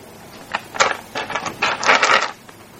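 An eight-sided die rattles and tumbles across a tabletop in a quick series of crisp, bright clacks, bunched into bursts over about two seconds before settling, with no voices.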